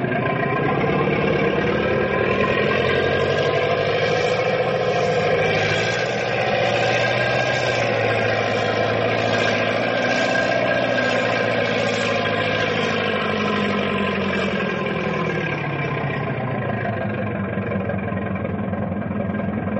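A truck engine idles steadily, a loud continuous low rumble with a mid-range drone and faint vibration that holds unchanged for the whole stretch, with no voices.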